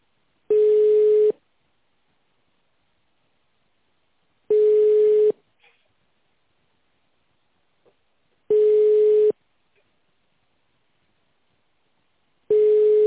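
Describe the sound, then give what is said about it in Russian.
A telephone ringback tone sounds alone while a caller is on hold, four steady, fairly loud beeps, each under a second long, repeating at even intervals of about four seconds with silence between. “Много еще звонит там? Много еще звонит?”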